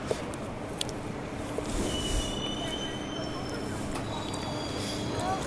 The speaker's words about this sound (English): I'm standing next to a squeaky sign because I thought it'd be a nice effect.